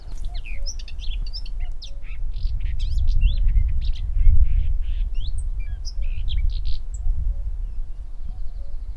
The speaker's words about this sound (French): On voit aussi beaucoup d'églantines, et on peut entendre, si on arrête de parler un instant, les oiseaux qui sont abrités dans ces haies.